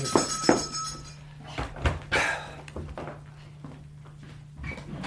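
A door is opened to let in an evening visitor: a couple of sharp latch clicks, then a brief scraping creak as it swings, over a low steady hum with no voices.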